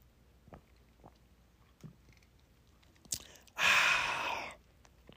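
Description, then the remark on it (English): A single loud slurping sip of coffee from a mug lasting about a second, preceded by a few faint clicks and small handling taps, with quiet stillness around it and no talking. “Hold on, I gotta take a sip.”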